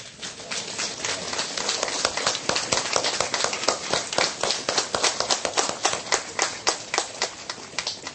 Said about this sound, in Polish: Po raz pierwszy uczestniczą w naszych spotkaniach Sandomierz, Kwidzyn i Pasłęk. Przywitajmy ich również gorącymi oklaskami.